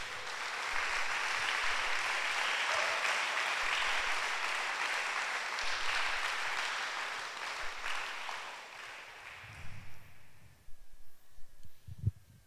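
A crowd applauds God steadily for about ten seconds, a dense wash of many hands clapping, then it fades out and a voice begins speaking near the end.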